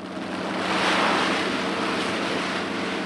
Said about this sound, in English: The idea of war seems distant here at harvest time, where a local farmer with a brand new combine makes quick work of this year's rice crop, pouring the grain into huge plastic sacks in the back of a waiting truck.